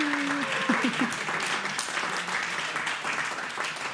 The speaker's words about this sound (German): Wir wollen euch auf jeden Fall einmal kurz vielen, vielen Dank sagen fürs Zuhören und ihr dürft auch klatschen. Einmal klatschen.